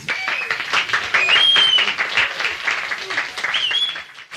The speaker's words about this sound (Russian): Бурные продолжительные аплодисменты.